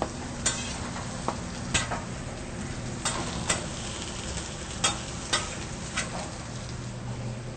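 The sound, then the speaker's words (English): Steady, hissing sizzle of bell peppers, zucchini and fresh mushrooms frying in a little oil on a grill, broken by sharp crackles and pops every second or so, with a low rumbling hum underneath and no voices. “And we're going to put that on the grill and get that grill in with a little bit of oil real quick.”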